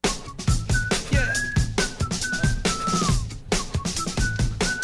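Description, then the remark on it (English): A thin, wavering whistle runs through a busy, thumping background, holding steady notes with a few short upward and downward glides, fairly quiet under the louder rhythmic noise. “That's literally part of the whistle.”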